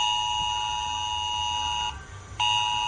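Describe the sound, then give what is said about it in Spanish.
A loud, steady electronic emergency alert alarm tone blares continuously from a mobile phone, with stacked piercing harmonics, briefly dropping out for a moment before resuming at full strength. “Esas alarmas, ojo, no están activadas por defecto.”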